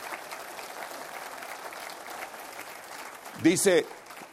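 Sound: audience applauding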